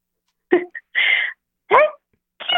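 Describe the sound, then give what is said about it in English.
A caller vocally imitates a sneeze like Dita Von Teese's in four quick bursts, a short gasp followed by hissy, breathy blasts, loud with brief pauses between them. “A sneeze”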